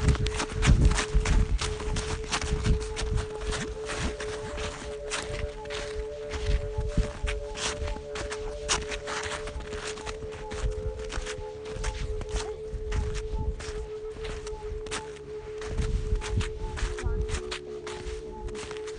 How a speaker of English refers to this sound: Snow crackling. Seems like a lot's coming through over there.